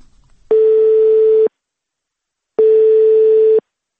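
A telephone ringback tone sounds twice on a phone call to the city of Novokuznetsk, each steady buzzing tone lasting about a second with a pause between, clear and fairly loud on an otherwise silent line before the call connects.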